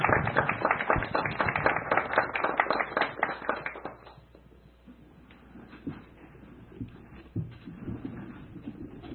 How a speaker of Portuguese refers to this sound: Encerrando esse minuto de silêncio, eu gostaria de dar um salve de palmas em nome de São Evangelino, em nome de todos os nossos pais.